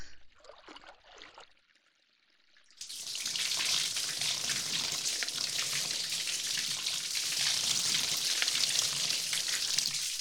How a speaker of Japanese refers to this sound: はい、流しますね。 れだけあった泡が全部流れていきますね。 もう一回流しますよ。